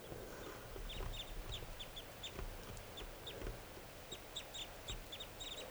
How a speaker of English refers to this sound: So recording, the wild birds are calling some more. They're getting restless.